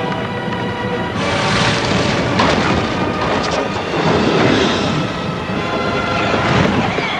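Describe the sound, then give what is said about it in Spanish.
Floodwater at Isengard sweeps along everything in its path and pours into the great pit at the foot of the tower, flooding the caverns, in a loud, continuous roar with a deep rumbling underlayer, swelling in force after the first second and churning steadily with no voices. “El agua arrastra cuanto hay en su camino y cae por la gran fosa abierta a pies de la torre, inundando las cavernas de Isengard.”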